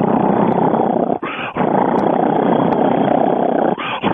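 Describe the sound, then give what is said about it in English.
A loud, continuous rasping cheetah purr imitated by a human voice, rumbling steadily and broken by two brief pauses, like quick breaths. “A cheetah will purr. It's so loud, you'll think it's roaring.”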